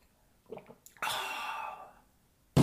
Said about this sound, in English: I'm going to drink a little water here so I can inscluviate my Brimptus pipe.